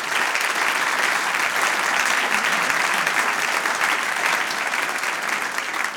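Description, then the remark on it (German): Sustained applause from a large audience in thanks to couples married for decades, a dense steady wash of clapping that stays loud and even for the whole stretch, with no voices standing out. “Yes, gebt den Applaus.”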